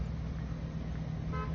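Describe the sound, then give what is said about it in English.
Steady low rumble of cars moving along a road, with a short horn toot near the end cutting through the traffic noise. “There's all their cars.”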